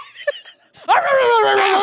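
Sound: dog barking and whimpering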